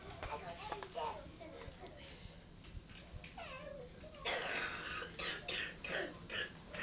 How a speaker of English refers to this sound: you've got a cough, …. How long have you had that?